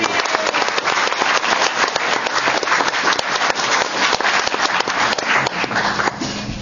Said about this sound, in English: So I just want to, in absentia, give a great round of applause for our intern, Camilla Ryan. Yay.